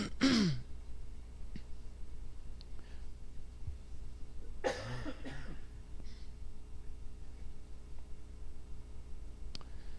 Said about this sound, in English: The Lord healed me of a cold. Now I got to have him heal me of allergies. Get rid of this congestion and this cough.